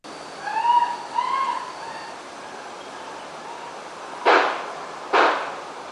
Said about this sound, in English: Also presented to the jury this week was a dramatic video where screaming can be heard, followed by 3 loud pops, which investigators identify as gunshots.